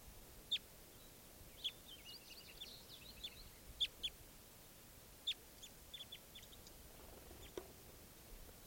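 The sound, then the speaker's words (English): Small caged birds of a flock give sharp, high chirps and short twittering calls, scattered irregularly over a soft background hiss, with no voices present. “I don't remember the birds you're calling.”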